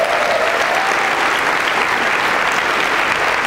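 Steady, dense audience applause fills the whole stretch, a loud continuous wash of many hands clapping with no pauses and no talking over it.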